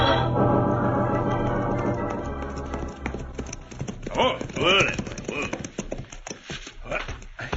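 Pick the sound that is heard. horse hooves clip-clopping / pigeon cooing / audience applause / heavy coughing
horse hooves clip-clopping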